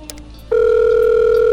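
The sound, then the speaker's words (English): A few quiet clicks and a brief low tone, then a loud, steady telephone dial tone comes in abruptly and holds without a break while calling 311, the Crime Stop number, to reach the police. Clear, with no voices. “Pass the phone. And let's call 311.”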